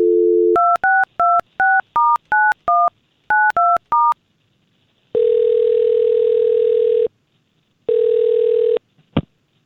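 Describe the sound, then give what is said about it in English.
A brief phone dial tone gives way to a quick run of about ten keypad touch-tone beeps as someone calls a man's phone number, followed by two long buzzing ring tones and a click as the line connects. “Well, we've got his phone number, and let's try to get a hold of”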